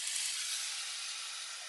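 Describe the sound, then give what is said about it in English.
A tiny bit of water is added to a hot pan after browning food to form a crust, sizzling and steaming in a steady, bright hiss that holds at an even level throughout with no voices. “I hear the sizzling.”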